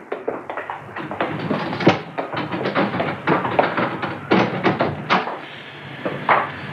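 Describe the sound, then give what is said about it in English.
A locked door in a building is unlocked and opened: a rapid series of metallic clicks, rattles and light knocks from the lock and handle, ending with the door swinging open. “I took the precaution of locking the door just in case the murderer was still lurking in the building.”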